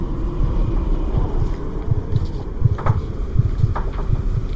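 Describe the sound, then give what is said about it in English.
Howling wind whistles through trees in a steady, rumbling roar, with a thin high whistle running underneath and brief gusty swells. No voices are heard. “The howling wind outside is whistling through the trees.”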